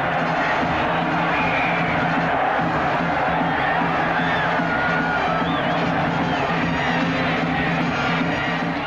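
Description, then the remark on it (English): A big football crowd cheers ecstatically as a player races down the field for a touchdown, a dense, unbroken wall of noise, loud and steady for the whole stretch with scattered shouts and whoops mixed in. “The crowd, coach, and pooch are ecstatic.”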